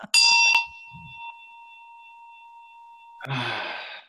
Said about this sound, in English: And I just wanted to share as well that I did find, it was sitting on my shelf, my Tibetan bell, and I'm just going to give it a little ring here at the end.